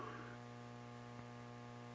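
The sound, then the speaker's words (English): A steady, unbroken telephone dial tone drones quietly for two seconds, a flat low hum with a faint click near the end and no voices. “Hate getting those dial tones.”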